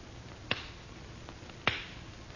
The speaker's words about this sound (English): I have only to clap my hands lightly, monsieur. Over the flame in the bowl. And say, awake.